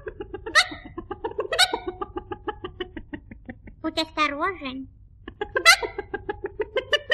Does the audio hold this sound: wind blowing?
no